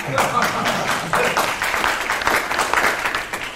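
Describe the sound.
A roomful of people applauding a man who stands up to take the applause, a dense, steady wash of many hands clapping at once, fairly loud, with indistinct voices mixed into the clatter.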